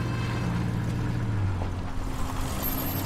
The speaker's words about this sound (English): She gets in the car. Go. Ed gets in and they drive off.